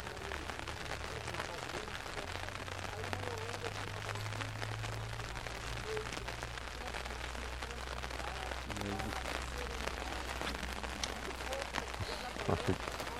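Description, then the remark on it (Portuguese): Steady rain pours down in a dense, continuous patter of drops. A low hum runs underneath, and faint, muffled voices can be heard in the background. “Opa! A chuva aqui, né?”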